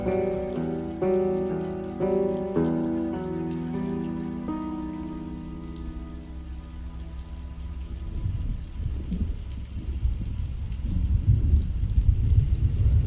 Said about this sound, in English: And by the way, it's not raining in the studio. That's actually part of the song.